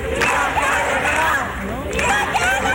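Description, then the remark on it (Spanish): Hundreds of mostly young people in the París-Londres neighbourhood shouting together in loud, overlapping voices, yelling at each appearance on television, a continuous roar that swells near the start and again toward the end. “Han estado gritando durante toda la tarde, a diferencia de lo que se pensaría, ¿no?”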